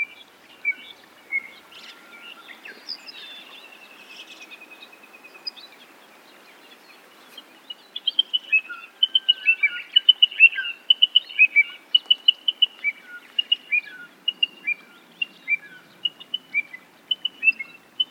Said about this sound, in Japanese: コチドリは夏鳥です。冬の間は暖かい東南アジアで過ごし、春になると繁殖のために日本に渡ってきます。今は長旅を終えて子育ての準備をしているところです。